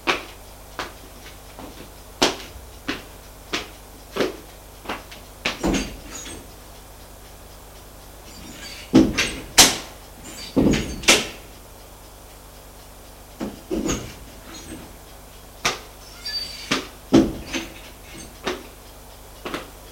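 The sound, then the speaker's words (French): A front door is handled and opened after the doorbell rings: a run of sharp clicks and knocks from a latch and handle, with a few louder clunks in the middle, with no talking. “On sonna à la porte d'entrée. Personne n'y fit attention, sauf Martin qui alla ouvrir.”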